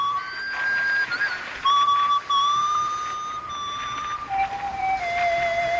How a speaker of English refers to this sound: It was a man's whistling. Your husband's a hell of a whistler.